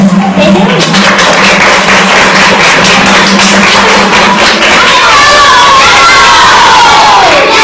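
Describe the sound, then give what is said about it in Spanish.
At a Super Radio broadcast from the Inmaculada, a loud crowd of children cheers and shouts while steady applause claps underneath. The burst of noise fills the whole moment, and no individual voice stands out. “Un aplauso a él.”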